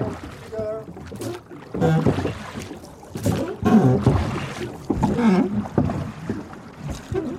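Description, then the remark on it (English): The oars of a coastal rowing boat, rowed by a crew working as a team, dip and splash in open water in a steady rowing rhythm, several broad washy strokes, with voices murmuring faintly in the background. “I wanted to be out there, you know, no sails flapping, no engines going, just splash and quiet and working as a team.”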